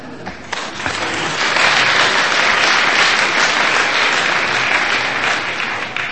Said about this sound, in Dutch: En als u nu toch aan het klappen bent, doet u dat dan ook voor